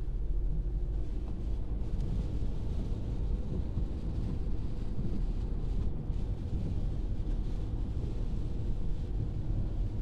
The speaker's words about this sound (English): If you listen carefully, you'll hear the pitter-patter of raindrops on the car as we drive.